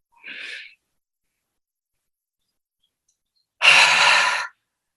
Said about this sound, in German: Stellt euch vor, mit der Ausatmung haucht ihr einen Spiegel an und atmet so lange aus, bis ihr dann das nächste Mal wieder einatmen möchtet.